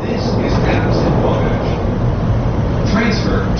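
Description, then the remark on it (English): Loud, steady rumble of a Chicago Transit Authority elevated commuter train running along its tracks toward downtown Chicago's Loop, heard from on board, with muffled voices faintly under the constant roar. “We're aboard a Chicago Transit Authority elevated train heading for Chicago's downtown center, known as the Loop.”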